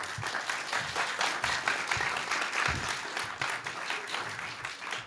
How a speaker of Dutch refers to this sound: Maar ik wil graag een hartelijk applaus voor Michiel Veenstra.